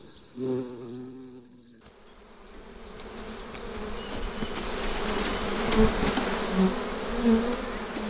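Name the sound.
honeybees buzzing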